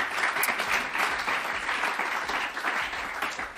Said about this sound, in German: Ein Applaus für Herrn Sven Bauer. Dankeschön.